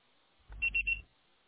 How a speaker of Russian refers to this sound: Вызываемый вами абонент занят и не может сейчас ответить на звонок, так как в данный момент или оставьте свое сообщение после звукового сигнала.